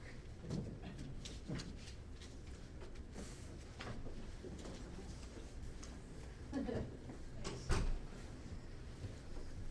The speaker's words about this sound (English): Maybe we'll close the door here. Is there anybody else coming?